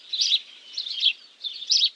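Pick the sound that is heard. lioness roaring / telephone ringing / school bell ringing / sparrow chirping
sparrow chirping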